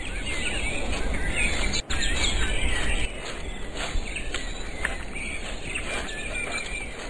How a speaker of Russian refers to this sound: Мальчики не замечали, как весело пели птицы и как они, догоняя друг друга, прыгали с ветки на ветку, как в зарослях перекликались рябчики.